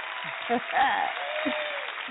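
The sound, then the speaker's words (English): A steady wash of crowd applause for an artist who received the most live votes, dense and even for the whole two seconds, with a faint voice and a thin whistle-like tone rising briefly above the clapping. “I just love applauding those who are doing their thing out there.”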